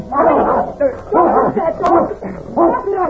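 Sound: dog barking and yipping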